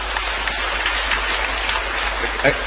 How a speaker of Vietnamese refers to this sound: Cho một tràng pháo tay thưa anh chị em.